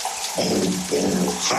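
Steady, loud hiss of shower water pouring continuously, with a muffled singing voice faintly audible beneath the spray.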